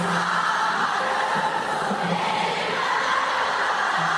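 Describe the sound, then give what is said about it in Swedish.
A large concert crowd roars steadily, a dense wash of cheering and voices singing along, with faint low tones pulsing underneath for the full few seconds. “Vi kan väl lyssna lite grann på hur det lät på konserten.”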